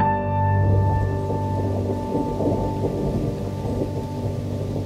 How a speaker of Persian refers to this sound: بارون گرفته بود